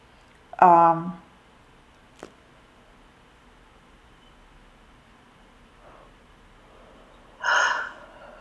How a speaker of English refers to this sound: So of course, that yawning is like somehow they're releasing some stale energies, so that you can move forward in victory, so that you can move forward in your true establishment.